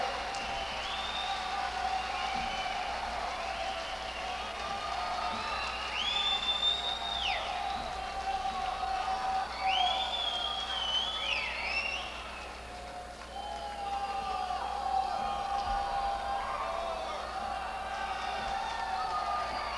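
A large audience applauds and cheers in a dense, steady roar for about twenty seconds, with shrill whistles and whoops rising above the clapping and a brief lull partway through.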